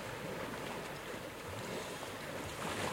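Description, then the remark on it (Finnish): Steady, broad sea wind blowing by the shore, with a continuous hiss and low rumble of waves or surf underneath, fairly constant in level throughout with no voices. “Merituuli kuivaa. Se on terveellistä.”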